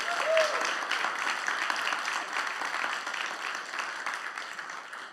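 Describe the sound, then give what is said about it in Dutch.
An audience claps together for the performers after a song at a Father's Day church service, in a steady, dense wash of applause that holds at an even level for about five seconds, with a brief high vocal whoop near the start. “Geef ze even nog een applaus.”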